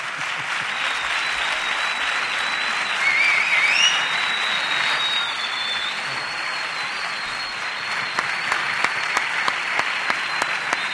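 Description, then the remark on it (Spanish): A large audience applauds the director general of Grupo CEO steadily and loudly for about eleven seconds, a dense wash of clapping with a few whistles rising over it, thinning toward the end into scattered individual claps. “Si a mí me han aplaudido así, al director general, ¿cómo lo tenéis que aplaudir?”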